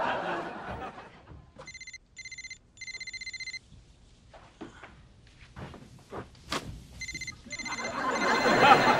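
A telephone rings in three short electronic bursts, then twice more a few seconds later, with rustling, a clunk and soft movement noises in between, ending in a rising hiss.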